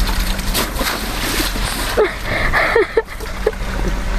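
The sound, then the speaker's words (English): Water drips and trickles from a soaked computer that was thrown on concrete and submerged in a pool, a few distinct splashy drops landing in an irregular rhythm over a steady wet, gurgling background wash. No one speaks. “This is the water kind of dripping out of its computer.”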